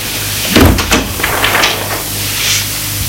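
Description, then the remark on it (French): A young woman closes a door, which swings shut with a solid thud, followed by a few lighter clicks and rattles as it settles, over a faint low hum. “Il se retourne, c'est sa sœur. Elle ferme la porte.”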